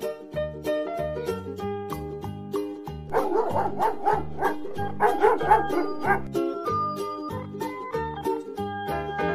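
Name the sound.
dog barking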